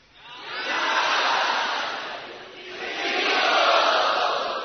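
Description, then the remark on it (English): A crowd of devotees screams out together in a loud, sustained roar that rises, dips briefly near the middle, then swells again in a second wave, with no single voice standing out. “The devotees screamed out”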